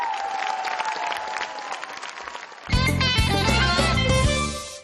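concert audience applause

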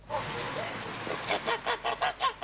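geese honking

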